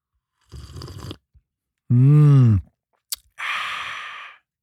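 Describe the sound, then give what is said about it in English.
An airy slurp from a cup of hot Dreamtime tea with a little honey, then a drawn-out voiced sigh, a small click, and a long breathy exhale, with no talking. “Ready? I'll sip it for you. Let's see if it's too hot.”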